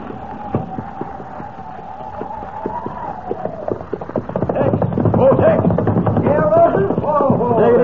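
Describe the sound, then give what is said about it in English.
Hooves of saddled horses clip-clop in a quick, uneven patter that turns louder and busier partway through, with indistinct voices mixed in underneath. “Got your horses all saddled and ready.”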